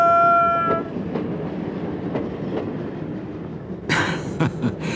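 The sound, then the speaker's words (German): A steam train rolls along the rails with a steady rumble and rhythmic clacking, opening with a brief whistle tone and ending in loud bursts of hissing steam. The mayor drives the locomotive, Benjamin the elephant rides on the roof, and passengers wave from the carriage windows. “Benjamin obendrauf, den Rüssel in den Wind gestreckt, die Passagiere alle aus den Waggonfenstern winkend und der Bürgermeister schwitzend und aufgeregt mit einer Lokomotivführermütze auf dem Kopf”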